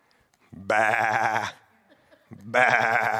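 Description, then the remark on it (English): Two loud, quavering sheep bleats, each about a second long, separated by a short pause. They sound clear, with no talking. “Why do I hear sheep bleeding back there?”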